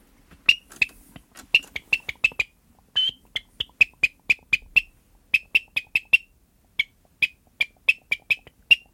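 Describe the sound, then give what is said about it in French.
Someone imitates the call of a tern (sea swallow) on a bird call made of beech and ash wood: a long run of sharp, high, clipped chirps delivered in quick rhythmic bursts with brief pauses, fairly loud, with no talking. “Je parle presque la sterne. Presque la sterne, qui est l'hirondelle de mer.”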